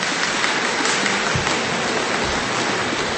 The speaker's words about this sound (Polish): Moi kochani, brawa.